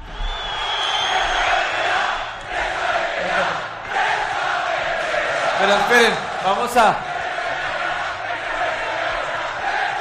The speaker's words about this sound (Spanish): Gritos de presa, vete ya, mientras hablaba Radamel Falcao.